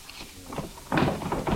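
Desk drawers in a home office slide open and things inside are rummaged through, with a few soft scrapes early on, then a louder burst of wooden rattling and shuffling that continues to the end.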